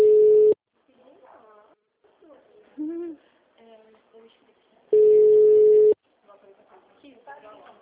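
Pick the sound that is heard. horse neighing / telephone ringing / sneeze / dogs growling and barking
telephone ringing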